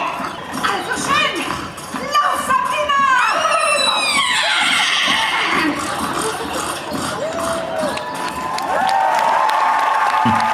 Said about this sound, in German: Völlig zu Recht Applaus.